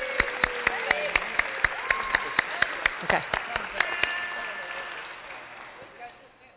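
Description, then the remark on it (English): An audience claps to welcome the newest member of the family of Christ, in a quick, steady rhythm of sharp, even beats for about four seconds, with voices calling out underneath, then the clapping stops and quiet chatter fades away. “Let's clap.”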